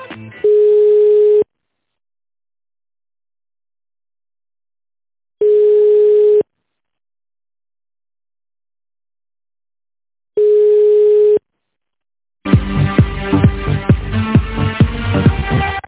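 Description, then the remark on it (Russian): A telephone line tone during a call transfer: three steady, low-pitched beeps about a second long, spaced roughly five seconds apart, then loud music-like hold audio abruptly takes over. No one speaks. “Давайте соединю вас минуту.”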